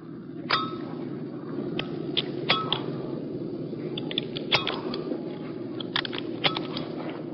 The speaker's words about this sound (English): If you listen closely, you will hear the actual sound of his parachute gear clicking closed.